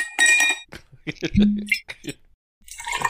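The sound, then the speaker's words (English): Climax moonshine poured into a glass, recorded live, heard as bright glassy clinks and splashy bursts at the start and again at the end, with a brief stretch of voice in between. “That was actual Climax moonshine pouring.”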